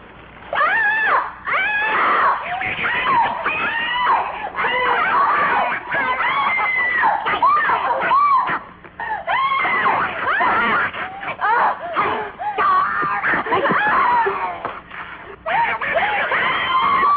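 Shrill, squawking monster screeches from the film Trilogy of Terror pour out almost nonstop, loud, with warbling, rising and falling shrieks broken only by brief gaps.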